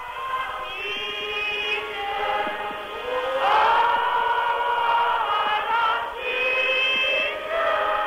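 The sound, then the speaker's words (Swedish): A church audience at a thanksgiving service in one of the small churches of a black township near Cape Town, South Africa, sings together in full voice, sustained harmonies rising and swelling through the whole stretch, fairly loud, with no one speaking over it. “Ekots Bengt Turner var med i en av de många små kyrkorna i en svart förort till Kapstaden.”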